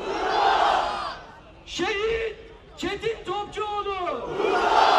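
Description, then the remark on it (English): Thousands of people in Istanbul, Turkey, gathered for the return of a Turkish aid ship, roar and chant in unison. Loud massed shouting opens and closes the passage. In the middle they make rhythmic, sustained collective calls, dense and reverberant, shouting their respects as the names of those killed aboard the ship are read out. “The large crowd shouted its respects as the names of the 8 Turks and 1 Turkish American killed aboard the aid ship Mavi Marmara were read out.”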